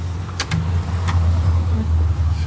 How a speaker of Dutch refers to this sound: Dit is de zijingang. We zijn om de kerk heen gelopen. Dit is de zijingang in de Zuiderkerkstraat. Nou, even kijken of de deur open kan.